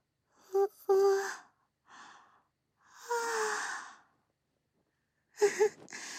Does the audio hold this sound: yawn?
yes